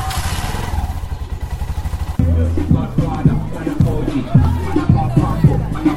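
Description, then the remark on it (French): A motorcycle taxi engine idles and then revs as the bike rides off down a street, leaving Dédingué 5 for Bouirab in the 4th arrondissement, with clattering bumps and a faint murmur of voices in the background. “Nous quittons Dédingué 5 sur un moto-taxi pour Bouirab.”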